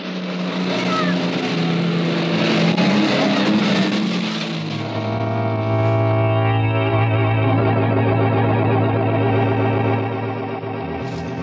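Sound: car engine revving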